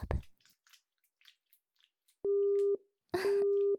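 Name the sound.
telephone busy tone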